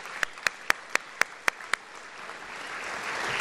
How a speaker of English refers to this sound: Let's give another big round of applause for Governor Greitens. He is a dynamic leader, and I am so proud to have him joining me this evening.